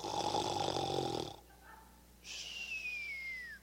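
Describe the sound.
A voice imitates a man's loud snoring heard at about 1 o'clock in the morning: a long, rough, rattling snore, a brief pause, then a second snore that trails off into a high, falling whistle.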